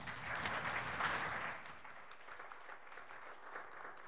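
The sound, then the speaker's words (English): An audience at a meal applauds to welcome a speaker, the CEO of the MIABC: a dense, steady patter of many hands that is loudest at first and then eases into a softer, thinning clatter as it winds down. “Some applause before I start speaking.”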